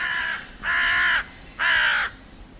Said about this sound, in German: Rabenkrähe.